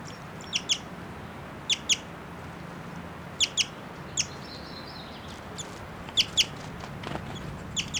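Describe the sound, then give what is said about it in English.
A female bird chitters in flight in quick high-pitched pairs of notes, repeated every second or so, with a brief thin whistle mixed in, fairly soft over a steady low background rumble. “And that's her flying and chittering here. Giving these whistling notes.”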